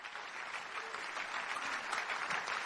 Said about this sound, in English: With a big hand clap for the Lord, may we welcome Pastor Korode Komaya as he comes to take the first shot. God bless you. Keep clapping as he comes.